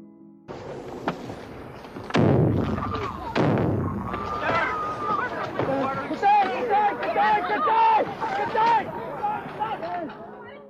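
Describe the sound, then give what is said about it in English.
Two heavy grenade explosions, thrown by Stone towards mourners at a funeral in a graveyard as the third coffin was lowered, boom in quick succession a second apart, followed by the panicked crowd shouting and screaming over continuous babble of many voices. “The moment of the explosion was caught on camera.”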